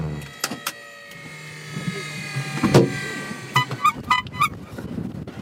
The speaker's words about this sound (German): Und dann kommst du da an, das ist wirklich nur so ein Landing-Strip sozusagen und dann holt der eine Hupe raus. Das fand ich so lustig. Eine Hupe?